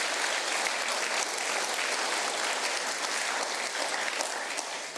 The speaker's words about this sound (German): Ja, Applaus, genau, danke.